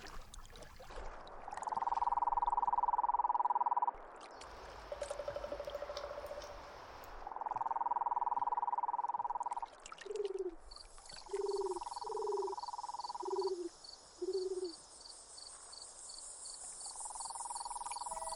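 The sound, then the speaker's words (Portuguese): A cururu toad calls in long, steady trills repeated several times, joined by short lower croaking notes and a high insect buzz in the background; no one speaks. “O cururu, ele é um sapo que está muito acostumado a viver em ambientes urbanos.”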